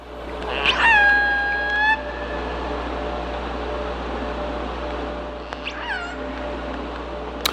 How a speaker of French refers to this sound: Et des vocalises d'orques, voilà, vous les entendez, elles sont au milieu des moteurs de paquebots dans les eaux du port de Vancouver, en l'occurrence, pour illustrer ce sujet encore mal connu du bruit sous-marin.